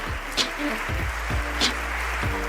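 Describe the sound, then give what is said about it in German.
An audience applauds Sonja Greinacher after her talk, a dense, even patter of many hands that carries through the whole stretch at moderate volume, with a few sharper bursts poking out along the way. “Ich danke euch fürs Zuhören und für den Applaus, fürs Interesse.”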